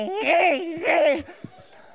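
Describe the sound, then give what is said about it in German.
A voice imitates a very small child's loud crying, likened to a chainsaw, with two long, wavering wails in quick succession, strained, followed by a brief pause with faint clicks and breathing. “Von diesem Geräusch wird der ganz Kleine aufgeweckt und er wechselt sofort in die Motorsäge.”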